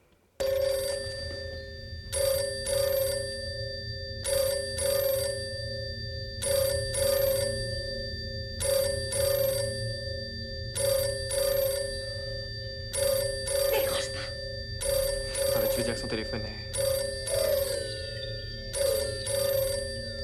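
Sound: telephone bell ringing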